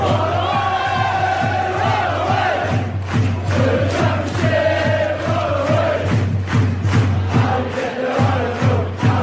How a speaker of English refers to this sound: Oh, and we're through to the next round of the Nestle Cup. Insert rapturous applause here.